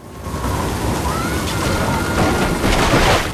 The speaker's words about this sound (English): Rain pelts down.